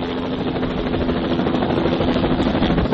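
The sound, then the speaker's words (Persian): A steady, loud mechanical drone of a helicopter used to rebuild burned mountain trails in Stirling Range park, southwestern Australia, after wildfires: engine and rotor hum with a low thrumming throb and a faint constant tone running underneath. No one speaks. “بازسازی این جاده‌های کوهستانی به کمک هلیکوپتر انجام می‌شود.”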